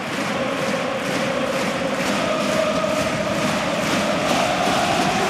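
A huge stadium crowd of Paris supporters roars and applauds in a standing ovation for Marquinhos, a dense, unbroken wash of cheering that holds at a steady, loud level throughout without any pause.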